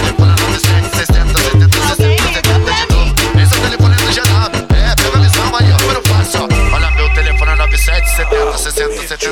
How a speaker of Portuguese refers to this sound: Tiririm, tiririm, tiririm, alguém ligou pra mim.